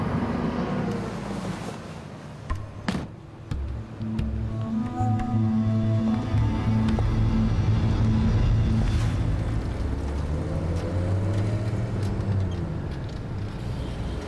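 A car door thuds, then an engine revs up and the car pulls away, its steady hum rising in pitch through gear changes as it drives on. It is a hired car taking a passenger around the city of Tehran.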